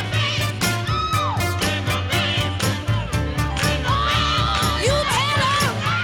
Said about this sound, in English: I love the scream and the backing vocals here.